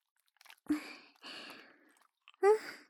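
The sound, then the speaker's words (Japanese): Wet, sticky squelching of body soap lathered into foam in the hands, moderately loud, in three short bursts with brief pauses between them and no talking. “こうして、ボディーソープで手の中をぬるぬるにして、 しっかり泡立ててから、これでおちんちんを包んでいくの。”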